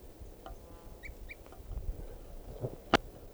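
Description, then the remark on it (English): Wild birds call in short, high chirps, a few brief notes scattered over a few seconds against a low rumbling background, with one sharp loud click near the end. “I think there may be two birds.”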